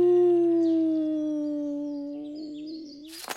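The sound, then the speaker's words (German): A little owl, rocked in a swinging net, gives a single long, wailing howl that holds a steady mid-pitched tone and sinks slowly lower as it fades, breaking off at the end in a short, rough, noisy burst. “Doch die kleine Heule-Eule heulte weiter.”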